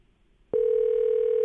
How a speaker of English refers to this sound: Here we go. The phone is ringing. See if we can get him.